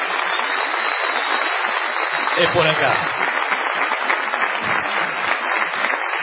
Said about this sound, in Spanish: Corresponde ahora la ovación delirante dedicada al artista antes llamado ….